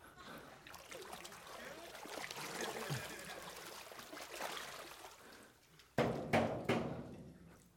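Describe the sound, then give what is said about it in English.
Water pours and splatters steadily, a continuous hissing trickle that ends in a few louder, sharper splashes. “Did you get some water on you?”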